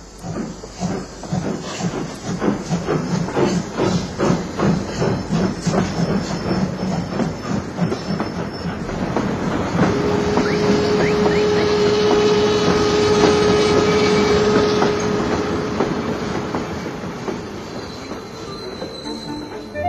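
Trains pull out of a station at the same time as the station master raises his baton, with rhythmic clacking of wheels over rail joints, then a long, steady metallic wheel squeal rises above the rumble and hiss. Loud, no voices.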